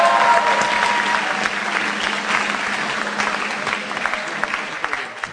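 An audience applauds steadily for about five seconds as two people are called onto the stage, a dense wash of clapping that holds fairly loud throughout before easing slightly at the end, with no voices over it.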